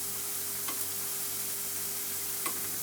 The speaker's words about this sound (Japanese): かき回さないとダメだね。